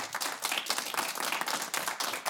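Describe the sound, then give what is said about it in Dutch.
A crowd applauds the experts from Hubertus and Berghof, many hands clapping in a dense, continuous patter that holds at an even, moderate loudness throughout, with no voices heard. “Geef ze een groot applaus.”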